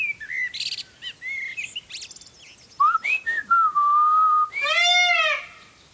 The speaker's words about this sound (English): Sorry, that's my peacock. Desperate to get in on the act. Massive bird, brain the size of a pea.